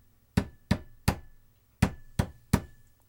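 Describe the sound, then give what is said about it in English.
Heavy, booming bangs on a big steel door come in two sets of three evenly spaced blows with a short pause between the sets. They are loud, with no voices. “Behind a big, huge steel door, they hear, like, some banging, like...”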